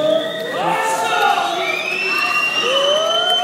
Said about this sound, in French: Voilà, le directeur général qui s'avance vers la tribune, qui se fait siffler.